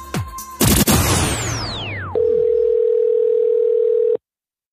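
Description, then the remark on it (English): A loud swooping, crashing sound effect gives way to a steady, mid-pitched telephone dial tone at the start of a prank phone call; the tone hums unbroken for about two seconds, then cuts off abruptly. No one speaks. “And now, another wheelbarrow full of dicks phone scam with the king of pranks,”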